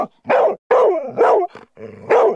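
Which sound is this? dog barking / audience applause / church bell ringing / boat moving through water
dog barking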